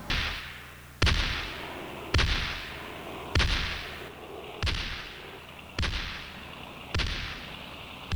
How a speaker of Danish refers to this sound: Edgar førte an, og da hun nærmede sig fjenden, så åbnede batteriet på Amager og 3-4 af de sydligste blokskibe ild.